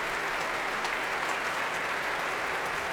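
Sustained applause from a large audience at the Royal Albert Hall for a performance by well-travelled young musicians, a dense, steady wash of clapping at an even level with no voices standing out.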